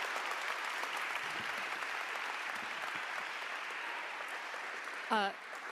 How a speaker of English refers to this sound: So I want to thank you so much for being here. It's an absolute honor. a round of applause